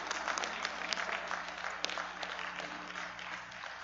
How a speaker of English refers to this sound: Today we're going to honor our church secretary, Ginger Hundley. This is her 30-year anniversary. So that alone, I think, deserves some applause.